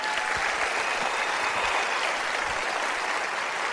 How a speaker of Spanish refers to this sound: Pónganse de pie. Yo quiero darles un fuerte aplauso.